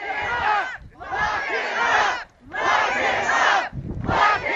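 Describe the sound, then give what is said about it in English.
A protest crowd shouts expletives and chants in rhythmic bursts as Air Force One prepares to touch down at Bangor International Airport, Maine, just before 2 o'clock. Loud massed voices chant repeated phrases with brief pauses between each surge, a dense, energetic roar of many people yelling together. “As Air Force One prepared to touch down at the Bangor International Airport just before 2 o'clock, the group erupted in expletives and chants.”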